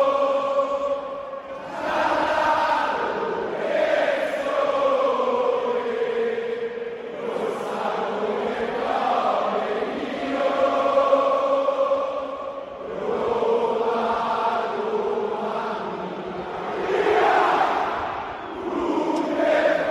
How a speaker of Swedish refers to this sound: Och det allra mäktigaste det är faktiskt när de... stänger av musiken i högtalaren, så får de sista 30-45 sekunder, då är det bara publiken som sjunger.